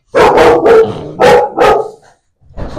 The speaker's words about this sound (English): Sorry. We have our dogs are barking.